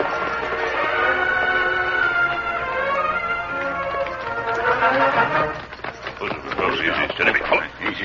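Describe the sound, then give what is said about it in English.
Horse hooves clip-clop in a brisk, steady rhythm that grows sharper and more distinct toward the end, over a busy, sustained tonal background, as the Lone Ranger and Tonto ride in among the trees along a woodland branch trail toward a small farmhouse. “We'll ride in among the trees from here, Tonto.”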